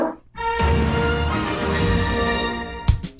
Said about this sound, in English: Sit, Ubu, sit. Good dog.